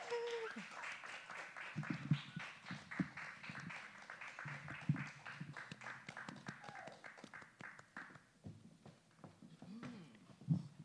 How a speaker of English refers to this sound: So please, ladies and gentlemen, give a round of applause to …. Give a big round of applause.